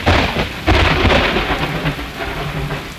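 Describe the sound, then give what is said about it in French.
Rain falls steadily with a broad hiss while deep rumbles of thunder roll underneath, swelling loudly near the start and continuing low and heavy throughout. “7 jours après, la pluie commence à tomber.”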